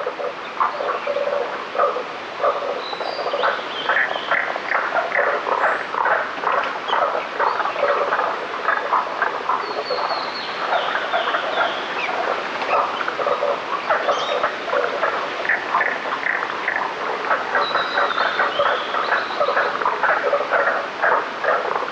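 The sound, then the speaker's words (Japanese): A toad, probably of the true toad family, gives chicken-like clucking calls from among rocks deep in the mountains, a dense and steady stream of rapid, mid-pitched chirps that keeps going throughout, with no voices present. “姿は見えなかったのですが、調べてみたところ、おそらくヒキガエルの仲間のようです。”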